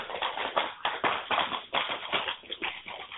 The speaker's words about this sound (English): Somebody's really popping firecrackers in their background. That background noise.